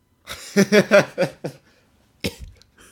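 A fairly loud run of about five quick, voiced coughs in a row, followed after a short pause by one more sharp cough, with no talking.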